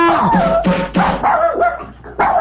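A dog barks and yelps repeatedly, several loud, tonal bursts in quick succession with whiny edges, dominating the short stretch with no talking.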